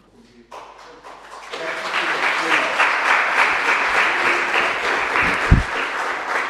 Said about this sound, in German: Herzlich willkommen. Der Applaus gilt stellvertretend auch allen anderen, die hier mitarbeiten.